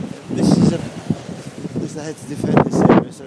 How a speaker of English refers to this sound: And it's a sunny day. I haven't said that already, but it is a bit windy because we're by the sea. Although it wasn't, but it is now.